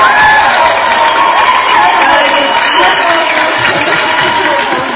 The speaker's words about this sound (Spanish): Un aplauso a Felipe Toris.